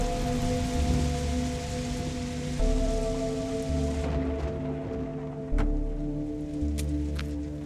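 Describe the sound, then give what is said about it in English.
Steady, heavy rain hisses continuously over a low, droning hum, with occasional sharper drips and patters standing out. No one speaks. “But it's raining, so who knows where they went.”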